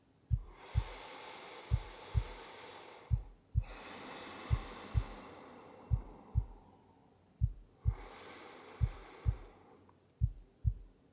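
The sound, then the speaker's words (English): A slow, steady heartbeat thumps in paired beats, deep, repeating evenly while soft whooshing breaths swell and fade in the background. “Listen to that heartbeat.”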